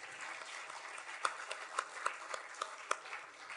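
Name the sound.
audience applause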